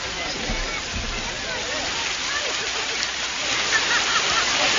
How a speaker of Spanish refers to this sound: O sea que estando el padre atento y cerquita, los pueden dejar que disfruten del agua de la seta. Aquí es donde tenemos a la seta.